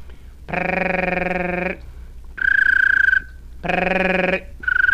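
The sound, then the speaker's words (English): A person demonstrates a bird-call technique, alternating a buzzy, rolling voiced trill made by hitting the tongue against the roof of the mouth with a high, pure whistled trill imitating a little bird, each lasting about a second, repeated twice with no words. “practice this to get the little bird trill.”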